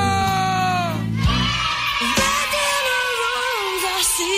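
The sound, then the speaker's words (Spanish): Loud, sustained shouting and screaming from several voices at once, raw and strained, filling the whole few seconds with a noisy crowd-like roar. “El grito.”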